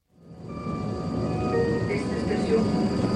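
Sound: train arriving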